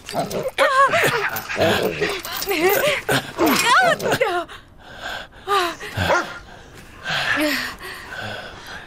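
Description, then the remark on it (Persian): A small dog, Rex, with its paw caught in a trap, yips and barks excitedly in quick, high-pitched bursts, with panting and whimpering sounds between them and some voices in the background. “سگ قدیمیت؟”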